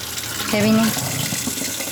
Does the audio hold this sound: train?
no